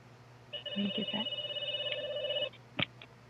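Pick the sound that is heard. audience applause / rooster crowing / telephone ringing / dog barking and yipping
telephone ringing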